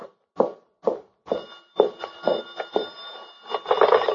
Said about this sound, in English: Shoot. The phone. No, I'm not going to answer it. Go ahead, answer it, man.